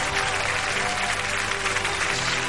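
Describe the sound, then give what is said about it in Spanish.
Steady applause from a group fills the whole stretch, a dense, even clatter of many hands clapping at a constant, fairly loud level with no clear voices on top. “El aplauso”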